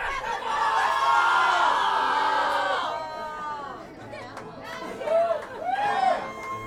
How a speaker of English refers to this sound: We need one volunteer from the audience that wants to yell. Hold on. I think that's the guy. Could you, sir, yell festival really loud?